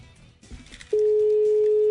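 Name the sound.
telephone call ringing tone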